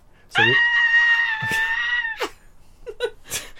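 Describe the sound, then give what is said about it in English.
A woman lets out a long, loud, shrill, wordless scream held for nearly two seconds, followed by a few short breathy squeals and gasps. “My wife is screaming incoherently for some reason, but yeah, it was awesome.”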